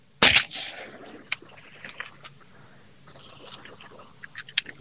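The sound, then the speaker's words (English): One loud shotgun blast, fired at a duck during a duck hunt, rings out near the start and fades quickly, followed by quieter outdoor rustling, a few sharp clicks and faint voices. “One shot. It is.”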